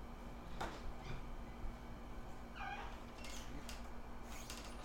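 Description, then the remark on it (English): A single faint, thin kitten meow rises and falls midway through, set against quiet room hum with a few soft knocks and clicks around it and no one talking. “Did you find the cat? I didn't find the baby cats.”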